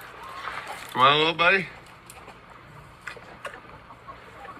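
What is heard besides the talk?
chickens clucking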